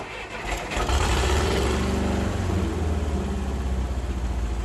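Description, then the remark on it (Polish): A small restored tank runs on a petrol engine and gearbox taken from a Żuk van: a loud, steady rumble with a slight rev near the start, holding constant for several seconds with no voices. “Przerdzewiałe oczywiście leżą i czekają na jakąś ekspozycję, ale tak czołg jest sprawny, na chodzie jeździ.”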